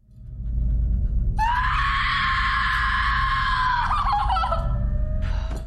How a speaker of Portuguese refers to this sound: Em quinto lugar, temos o grito de Jenna Ortega, nossa eterna Wandinha, no filme X. Me arrepio só de lembrar. Na cena, a personagem Lorraine encontra um corpo no porão da casa onde está e dá um grito típico de filme de terror clássico.